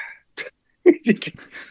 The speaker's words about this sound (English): this is what happens when you got a puppy that weighs 125 pounds. It's a puppy. I thought he was full grown. He's got another 6-8 months before he's even full grown. So he's getting big.